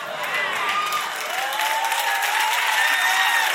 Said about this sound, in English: Y'all sound a little too excited about that. Kind of sketchy how much y'all clapped about that.